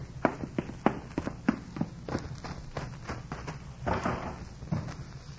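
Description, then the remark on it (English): A house door is shut and locked with a run of sharp knocks and latch clatter, followed by rattling handling noise over a low background hum. “Did you lock the door?”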